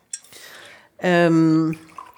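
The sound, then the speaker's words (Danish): Water is poured briefly into a small drinking glass with a splashy trickle, followed by a short, loud hummed voice. “Og jeg skal lige have et lille glas vand.”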